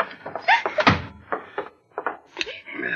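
A door swings and shuts with a single solid thump near the start, surrounded by scraping, clattering handling noises. No one speaks.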